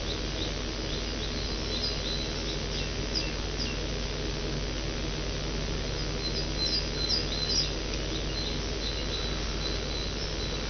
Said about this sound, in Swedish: Om ni hör de här fåglarna i bakgrunden. Det är ganska fantastiskt. Fåglar i direktsändning.